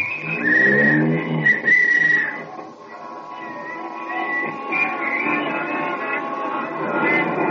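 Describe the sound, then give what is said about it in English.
A taxi cab drives up Broadway through city traffic, heading to a theater off Times Square at night: a couple of bright, tonal horn honks open, then a steady rumbling engine-and-street noise carries on at moderate loudness, with no one talking. “Here's my cab, won't you step in? All right, driver, up Broadway.”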